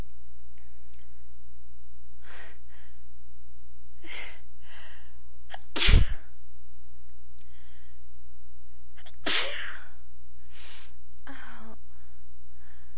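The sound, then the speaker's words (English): A loud sneeze bursts out mid-clip, followed a few seconds later by a second, softer sneeze, with quiet breathing and faint murmurs around them against a steady low hum. “I'm gonna sneeze again.”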